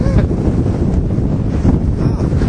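Strong storm wind buffets the microphone in a constant low roar, with the broad wash of ocean surf washing in over the beach churning underneath, loud throughout, no voices.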